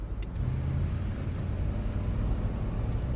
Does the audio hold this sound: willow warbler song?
no